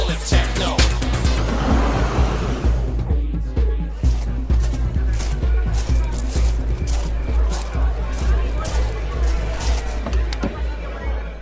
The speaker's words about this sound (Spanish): Hay cientos de coches en este y otros parkings de discoteca. Cada vez hay más tráfico en la ruta.